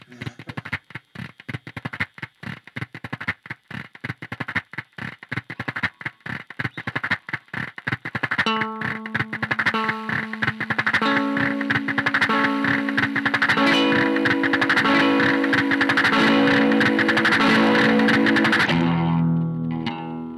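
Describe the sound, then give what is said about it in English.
Heavily fuzzed electric guitar run through an Echo Dream 2 fuzz-delay pedal. It starts as a choppy, stuttering wash of distortion, then swells into sustained, layered notes with howling feedback, loud and dense with no voices. “That guitar part, that's the Echo Dream 2. It's heavy.”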